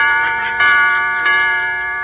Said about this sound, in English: The clock struck four. That's more like it.